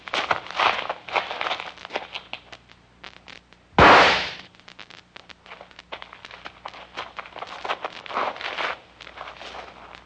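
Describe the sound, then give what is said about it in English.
One loud gunshot cracks out and quickly fades, a gun fired to kill a horse, standing alone against a background of soft scuffing and rustling noises before and after it. “Hey, you want me to do it? Give me the gun.”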